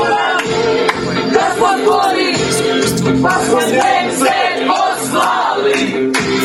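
A crowd of about 100 fans cheers and shouts together at Zagreb airport, welcoming the team home: a loud, continuous roar of excited voices with bursts of yelling and whoops rising throughout.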